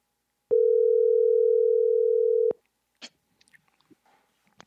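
phone call ringing tone

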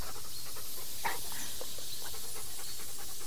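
snakes hissing

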